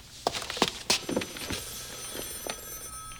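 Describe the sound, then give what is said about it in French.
A telephone rings with a thin, high electronic trill, mixed with a few sharp clicks and knocks. “Hey, puis ton téléphone sonne.”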